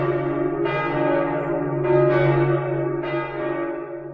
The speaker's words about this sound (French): Les cloches hurlent l'ordre social.